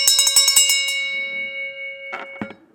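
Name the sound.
parliament session bell ringing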